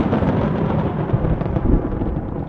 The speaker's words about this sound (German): Was ist das? Dieses Grollen, dieses Beben und Brummen aus den Tiefen der Erde. Das klingt ja wie ein Klagen der Hölle. Schnell, schnell hinaus. Die Höhle bricht zusammen.